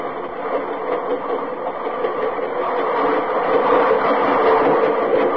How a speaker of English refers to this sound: You just stand there in the night and the little gate is down and it's raining. It's always raining. and you see this train, 120 cars going past, all loaded, reefers. Listen to that. There go the reefers past.